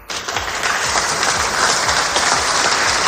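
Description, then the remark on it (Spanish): Loud, sustained applause from a large crowd for French President Macron after he signed an agreement with Algeria: a dense wash of many hands clapping steadily throughout with no pauses, and a few low thumps mixed into the clatter. “estos son los aplausos que ayer recibió Macron después de firmar ese acuerdo.”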